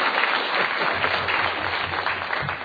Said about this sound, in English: I see my sponsor and my wife and some people from my group, my probation officer. Everybody's clapping.